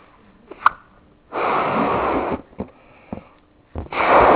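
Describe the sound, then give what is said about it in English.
A balloon is blown up by mouth as an example of an alveolus: two long, loud rushes of breath pushed into it, separated by short puffs and small squeaky clicks, with no talking. “Let's put some air in here. Hopefully it won't blow up.”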